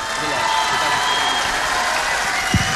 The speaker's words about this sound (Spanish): Y por lo mismo queremos que recibas este reconocimiento con el aplauso del Patahual.